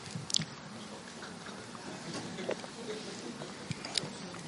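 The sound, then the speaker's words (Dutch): Quiet sipping of water: a few soft wet slurps and small swallowing clicks spaced out over a few seconds against faint background noise, with no talking. “Ik neem even een slokje water.”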